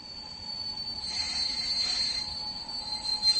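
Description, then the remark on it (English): A train rolls along the rails across the Ostrava conglomeration, passing through Hlučín, Ostrava, Karviná and Bohumín toward Český Těšín, with a steady rumble and a high, thin wheel squeal drawn out over it the whole time, fairly loud with no voices. “A series of trains, both small and big, take us across the Ostrava conglomeration.”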